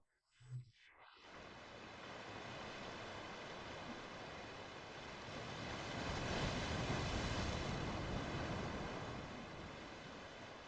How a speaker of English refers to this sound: The sound of the ocean releases your muscles and makes every cell in your body float on a great ocean.